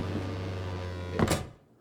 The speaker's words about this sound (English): The door? Hello, Captain?